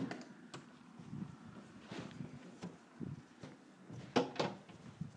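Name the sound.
door opening and closing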